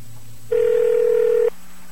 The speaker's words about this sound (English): All right, we called this last week. It's basically a telephone registration system. You use touch tones to register or deregister people